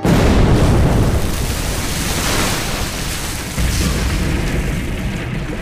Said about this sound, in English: Tremendous explosion hurled untold tons of rock and gravel across the mouth of a lower cross drift.